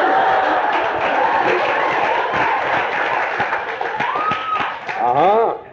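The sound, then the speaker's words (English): A live audience claps and cheers loudly, a dense wash of hand claps mixed with whoops and shouting voices that rises again near the end. “You cheer? Don't cheer.”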